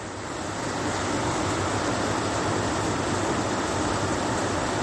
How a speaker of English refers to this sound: We want to lock the heavens because the rain is disturbing the recording.